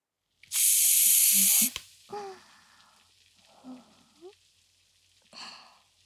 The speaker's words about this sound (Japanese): 今度ははっきり聞こえたかしら。パチッパチッパチパチッって手の中のスポンジが弾ける音が。正解は炭酸泡でした。